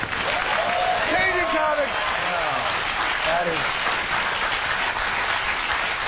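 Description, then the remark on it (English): A large audience claps loudly and steadily after a joke by John Stewart, a dense wash of applause with scattered whoops and cheers rising above it near the start. “Applause for anal copulation.”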